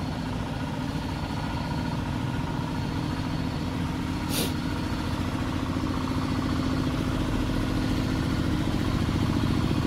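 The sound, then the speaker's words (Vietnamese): A loud tractor engine chugs and rumbles steadily as the tractor passes by, its heavy low drone holding throughout, with a brief sharp hiss cutting through midway. No one speaks. “Tiếp tục nha các bạn, cái xe máy cày nó kêu lớn tiếng quá, xe cải tiến.”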